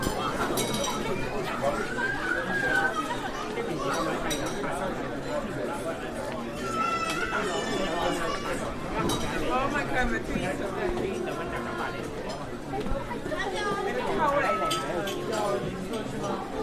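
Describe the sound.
Dense, steady crowd chatter fills a busy restaurant, Chungying Gardens, full of Chinese diners, many overlapping voices at a constant level, with occasional light clinks of dishes and cutlery scattered through the din.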